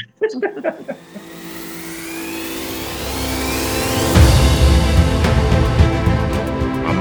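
An electric coffee maker running: a loud, steady mechanical whir and rumble that swells and climbs in pitch over several seconds, after a few brief choppy sounds at the start.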